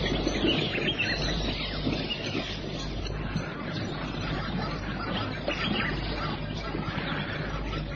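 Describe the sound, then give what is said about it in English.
Birds call continuously at the edge of a river as the sun begins to sink, in a dense, overlapping outdoor chorus, steady and fairly loud from start to finish over a low rumbling background, with no clear pauses. “And daintily around the edge of the water, and the high-pitched barking cries of the zebra mingle with the cry of the birds as the sun begins to sink.”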